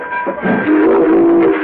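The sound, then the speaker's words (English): A train pulling away from a station, a steady rumbling chug with a sustained, whistle-like tone droning over it, fairly loud, with no voices. “The train starts to pull away, so Brutus runs to it.”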